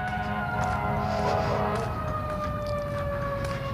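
A fire truck siren sounds loudly and continuously, its layered wailing tones sliding slightly lower in pitch as it passes over a steady low engine rumble.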